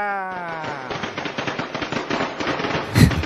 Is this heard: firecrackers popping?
yes